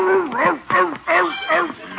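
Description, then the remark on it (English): A neighbor's chickens squawk and cackle frantically in a rapid series of loud bursts as a dog chases them, their rising and falling cries tumbling over one another as if the birds are scattering in alarm. “He's chasing the neighbor's chickens.”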